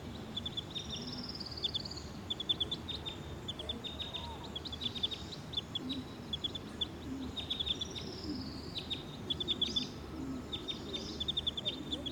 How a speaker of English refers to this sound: Recording bird 302.